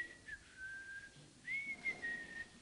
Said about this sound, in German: Und hält sich so die Hand auf den Bauch und pfeift.